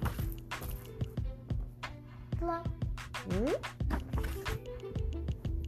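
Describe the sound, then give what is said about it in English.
Steady rain with irregular drips and splats, some giving short ringing plinks that bend in pitch, over a constant low hum. No one speaks. “But it's still raining.”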